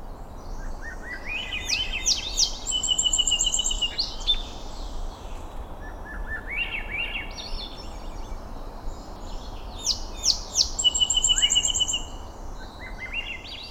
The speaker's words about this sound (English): In the following recording, Swainson's thrush shares the soundstage with a song sparrow.